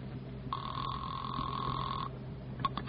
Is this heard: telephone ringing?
yes